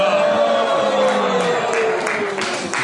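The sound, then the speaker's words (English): A crowd applauding steadily, dense clapping mixed with scattered cheers and raised voices, sustained at an even, fairly loud level throughout. “Who's that clapping?”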